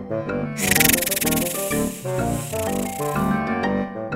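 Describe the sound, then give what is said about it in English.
A dry, hissing rasp of a snake slithering in the desert sweeps in after half a second and rustles steadily for about three seconds over a bright, bouncy musical backing that continues throughout. “A snake slithers in the desert.”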